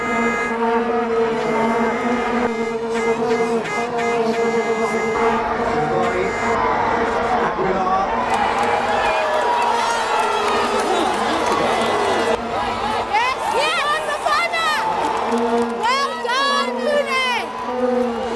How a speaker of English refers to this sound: After our president's speech, we let rip with our vuvuzelas.